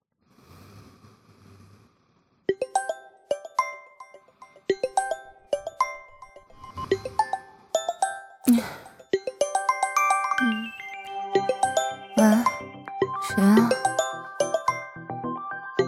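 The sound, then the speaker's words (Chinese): A phone's melodic ringtone chimes out in a steady, repeating tune for over ten seconds, clear, with a few short breathy snorts breaking in over it; it is an incoming call from a mother's son. “儿子打的电话。”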